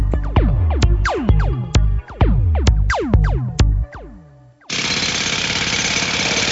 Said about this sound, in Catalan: El soroll d'unes obres, les molèsties de tenir a prop un aeroport, o el pas d'un tren,